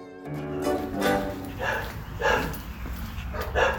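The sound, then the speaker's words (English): A dog barks repeatedly, roughly half a dozen sharp woofs at an uneven pace, over a low steady background rumble. “There was a guy training his dog, though? I'm only seeing a dog.”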